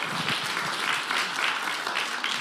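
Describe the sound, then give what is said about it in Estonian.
An audience applauds steadily, a dense crackle of many hands clapping at an even, moderate loudness for the whole stretch, with no voices standing out. “Aitäh, istuge, anke aplaus nendele, kes oli julged.”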